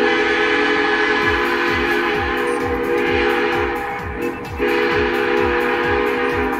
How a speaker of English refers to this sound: Well, a long time ago, trains were powered by steam engines that had distinct sounding steam whistles instead of horns.